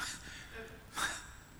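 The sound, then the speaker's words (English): A sharp intake of breath, a single audible gasp rising briefly out of quiet with faint background murmur. “Was that a gasp?”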